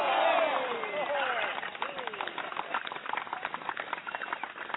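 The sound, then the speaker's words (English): A crowd claps steadily while voices whoop and cheer at the start, the cheers fading as dense, rapid applause carries on for several seconds. “Big round of applause.”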